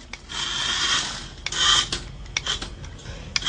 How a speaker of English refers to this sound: Here's audio from animal rescuers using a remote-controlled car, hoping to nudge the kitten from a pipe between storm drains.